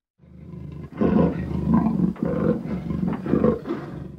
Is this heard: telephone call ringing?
no